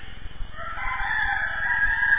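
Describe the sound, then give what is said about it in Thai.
A jungle fowl rooster crows once in a quiet forest, a drawn-out, slightly raspy call rising and holding steady, with no voices present. “ได้ยินใหม่เงียบอยู่ในป่าไอ้คล้ายๆเป็นไก่ป่าเว้ยนะไก่ได้ยินเสียง”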